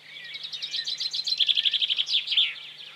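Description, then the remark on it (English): Someone does a bird call impression with a run of rapid, high whistled chirps and trills for about three seconds, fairly loud, with no talking. “Some fantastic bird impressions there.”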